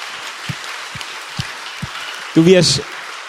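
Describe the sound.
An audience applauds in a steady, even patter of clapping with a few dull low thumps mixed in, and a short burst of voice cuts in near the end.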